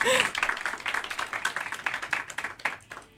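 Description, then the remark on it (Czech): A dense wash of clapping from an audience after a band's live song, many hands overlapping in a steady crackle that gradually thins out toward the end. Moderately loud. “Ano, potlesk.”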